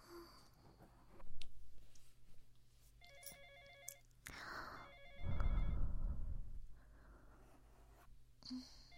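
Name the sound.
telephone ringtone ringing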